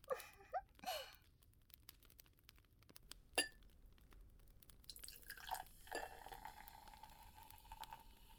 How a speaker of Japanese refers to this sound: 面白い。シュワシュワ音がする飲み物初めて見ました。飲むときはシュワシュワするのですかね。